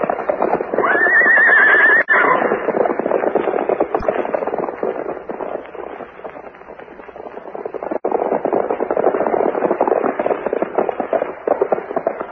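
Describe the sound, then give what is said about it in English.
A horse whinnies loudly near the start, then a steady, dense clatter of hooves continues throughout as three horses move together at a brisk pace, muffled. “Shower of rain falls just before Sweeney and his two gun folks ride off, so it's enough to leave the tracks of the three horses plain for us to follow.”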